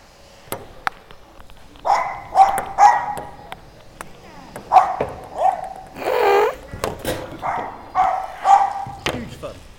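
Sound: dogs barking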